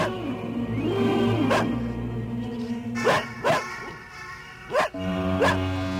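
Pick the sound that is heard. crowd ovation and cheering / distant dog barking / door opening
distant dog barking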